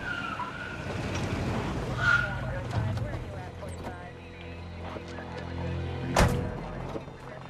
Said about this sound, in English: Isaac and Joyner duck down in the car as two police cars screech up alongside the house